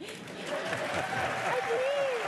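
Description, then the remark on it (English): A crowd applauds steadily, dense clapping filling the whole stretch at a fairly loud, even level, with some voices and a whoop rising faintly above the claps. “Everybody clap.”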